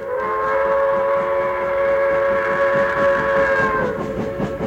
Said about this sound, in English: So this is a silver suitcase with a real train set inside it.